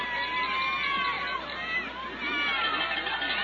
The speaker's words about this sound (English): I think I did pretty well placing that crowd noise mic down there, didn't I? Seemed to be picking up some pretty good noise down from the field there.